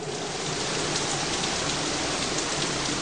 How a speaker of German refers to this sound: Der Regen ging so schnell, wie er kam.